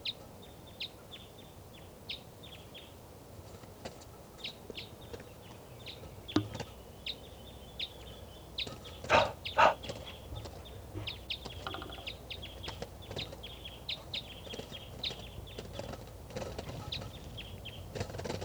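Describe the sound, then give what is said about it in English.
A wild bird up in the trees by a truck calls repeatedly with short, bright chirps in an irregular rhythm, over a low outdoor rumble with a few sharp knocks partway through. “So recording, that wild bird is still here. I think it's a lone female.”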